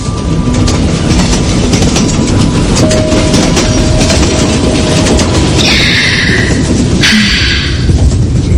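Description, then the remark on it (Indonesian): Passenger train wheels clatter steadily over rails in a loud, continuous rumble on an evening train journey to Bandung, with brief metallic screeches cutting in near the end. Nobody speaks. “Aku pun duduk bersandar di kaca jendela kereta api.”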